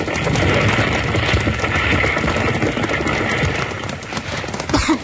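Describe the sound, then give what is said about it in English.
Horses' hooves clop rapidly as horses are rescued from a burning livery stable, buried in a loud, steady roar of rumbling, crackling fire noise that fills the whole stretch, with a few sharper knocks near the end as the roof starts to cave in, and no voices. “Bill and Jingles rush in to save horses, and just as loose, the roof starts to cave in.”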